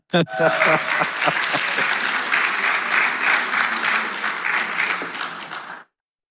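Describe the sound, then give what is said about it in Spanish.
An audience breaks into loud, sustained applause, dense overlapping claps holding steady for about five and a half seconds before stopping abruptly. “Lo que aplausa al Señor.”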